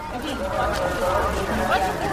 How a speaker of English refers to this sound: Ah, the familiar, slightly grating sound of tourist groups shuffling through one of Europe's most visited destinations. But after a statement from the city's council on Saturday, those loudspeakers could be a thing of the past.